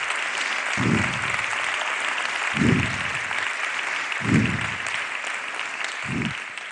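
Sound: applause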